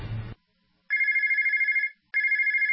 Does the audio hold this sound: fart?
no